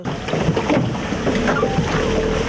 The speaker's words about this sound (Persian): سایچو در روزهای استراحتی سرکار است. او به حیث تاکسی آبی کار میکند. ساکنان و مهمانان دهه گیرداب را که راه ندارد از یک سوی دریا تا دهه با یک سامانی میرساند.